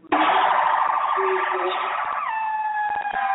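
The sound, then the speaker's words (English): A loud Albuquerque police siren wails continuously, its tone sweeping and then shifting to a steady higher pitch partway through, with faint clicks in the background. “And I heard screeching tires, and I heard police sirens.”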